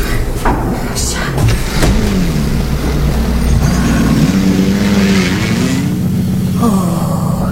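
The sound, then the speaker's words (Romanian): A car waiting outside turns over its engine and revs up, its pitch rising as the vehicle pulls away, the motor loud throughout with a brief clunk like a door near the start. “mașina vă așteaptă afară!”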